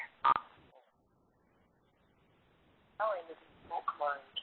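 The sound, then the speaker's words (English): A short electronic phone keypad beep sounds near the start as someone tries to unmute their line during a meeting, followed by a quiet pause, then further tonal beeps and murmuring over a phone line. “It's star 6 if you have on the keyboard, otherwise on your phone.”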